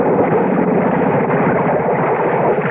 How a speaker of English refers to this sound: Oh, the motor's died. And the boat's drifting.